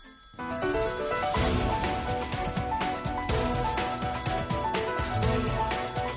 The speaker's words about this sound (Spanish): Sí, está sonando. Mira, te está diciendo Ceballos que corras para allá, que está sonando ya el teléfono.